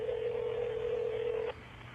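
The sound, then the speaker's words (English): A phone call tone sounds from a phone a woman holds: one steady, fairly loud electronic beep holds for about a second and a half, then cuts off, leaving a faint low hum with no voices. “She holds her phone.”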